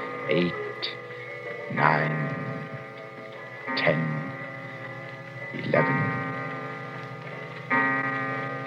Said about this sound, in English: It was midnight. All the clocks in the shop began striking the hour, and louder than all the rest was the chime of the evil clock.